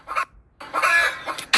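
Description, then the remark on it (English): A black chicken clucks in a few quick bursts separated by short gaps, the squawky calls fairly loud with no one speaking over them. “We're gonna throw at this fucking chicken.”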